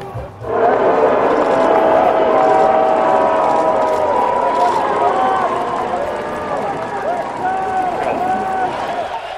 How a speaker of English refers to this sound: All right, you could clearly hear there was booing during that, and we will talk about that in a few moments.